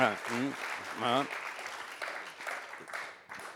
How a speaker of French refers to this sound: On applaudit.